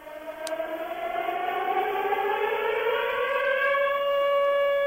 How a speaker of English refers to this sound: Yes, sirens all day. That was the Dutch domestic service transmitter, Hilversum 2. The broadcasting organisation responsible, the VPRO, decided to put out sirens all day in protest against the Dutch government decision to allow cruise missiles